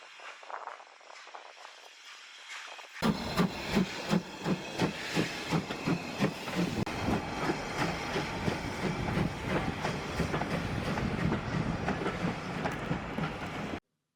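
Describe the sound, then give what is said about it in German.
A Strathspey Railway steam locomotive pulls away from Aviemore, starting with a soft hiss and then a loud, steady run of rhythmic chuffs over a continuous hissing rush, with no voices. “Es war sehr schön, ihn noch einmal bei der Ausfahrt zuzusehen, mit Fauchen und Stampfen.”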